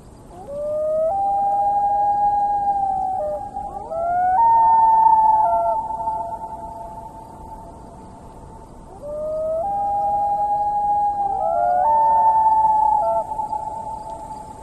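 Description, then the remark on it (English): A loon's long, mournful wail sounds twice over a glass-calm lake at sunset, each call a sustained tone that steps up in pitch and holds before fading. It is loud and clear, with no one talking. “Beautiful reflection on the water with the last few bits of sunlight, and then you hear the wail of a loon.”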